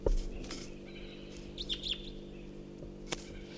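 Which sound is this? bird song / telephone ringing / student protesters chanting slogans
bird song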